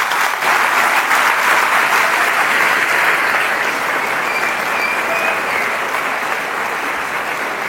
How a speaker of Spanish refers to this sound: A mí me da alegría que aquí ver tantos jóvenes. Démosle un aplauso a todos los jóvenes que están aquí.